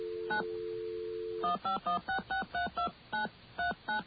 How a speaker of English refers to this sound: We're going to dial another number. Actually, you know what? I did this wrong. We have to, first of all, come in on the magic line like this. Okay. And that will allow us to dial out using magical touch tones. Okay, here we go.